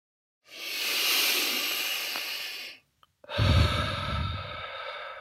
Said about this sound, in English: Let's begin by taking some deep breaths, breathing in through the nose and out through the mouth.